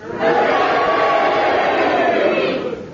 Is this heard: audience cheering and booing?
yes